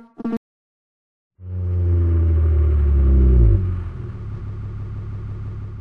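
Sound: car engine rumbling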